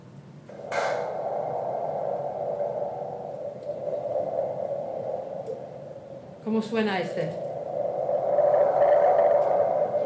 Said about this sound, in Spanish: Parece una ola. ¿Una ola o una tormenta, no? Un trueno. Vale. Pues podemos crear ambientes con estos instrumentos, ¿vale? Y este era el palo de lluvia, ¿vale? Pero esto es más para crear ambientes.